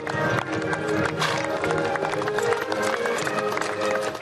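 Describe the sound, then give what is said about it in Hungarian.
Hooves clatter steadily as prize-winning one-, two- and four-horse carriage teams enter the illuminated arena of a night Lipizzaner horse show in a village in the Bükk, Hungary, a busy, continuous clip-clop with a crowd murmuring and what sounds like music playing in the background. “A díjazott 1-es, 2-es és 4-es fogatok bevonulásával kezdődött az éjszakai Lipicai lovassó a Bükki faluban.”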